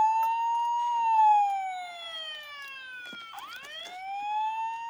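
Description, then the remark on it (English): A toy police car siren, on a toy fitted with a special on and off switch, wails in a slow, steady sweep, gliding down and then rising again, with bright electronic harmonics. It's fairly loud, with no one talking. “We have our kind of standard, police cars.”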